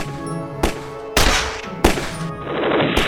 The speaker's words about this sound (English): Like a sudden rain squall, gunfire broke loose again.